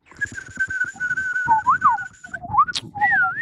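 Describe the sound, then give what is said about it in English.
A person whistles a wavering, birdlike call imitating a bird, a sustained tone with quick slides and trills, fairly loud, with faint low background rumble beneath. “Do you talk to the birds? What kind of bird was that?”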